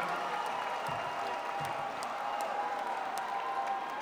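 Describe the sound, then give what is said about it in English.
A concert audience in Alabama applauds an opening band steadily for several seconds, a dense wash of clapping with some cheering mixed in, heard from within a large live audience at an even, moderate loudness. “and we'd like you guys to give them a round of applause for us.”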